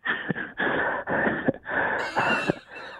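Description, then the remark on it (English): Heavy, raspy wheezing breaths blown into a microphone, several loud rushes of air in quick succession with a whistling, strained tone, no talking. “What was that breathing there, buddy?”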